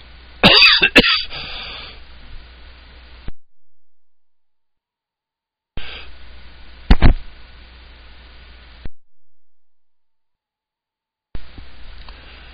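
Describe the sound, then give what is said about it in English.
Several sharp coughs: a quick cluster at the start, then another harsh cough a few seconds later, separated by abrupt dead-silent gaps where the sound cuts out entirely. “Sorry about that and the coughing that I didn't catch with the mute there.”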